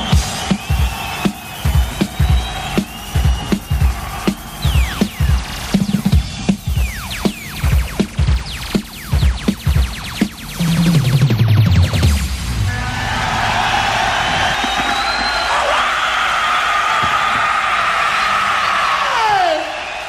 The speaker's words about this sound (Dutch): Wat we nu horen, dat is Odijk. Brom en Ruis, hallo. Dit is inderdaad Odijk, de Meent, een soort marktplein. En op dit moment zijn de WIP-wedstrijden aan de gang.